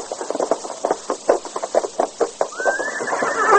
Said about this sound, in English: Here's my horse. Steady, boy.